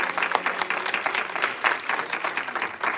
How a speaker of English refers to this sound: Can we give Jesus a hand clap of worship?